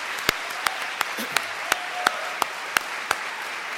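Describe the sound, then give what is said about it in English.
An audience applauds a speaker after a talk: a steady wash of clapping with about ten sharp, evenly spaced claps standing out in a regular rhythm, at moderate loudness with no talking. “So can we do it one more time?”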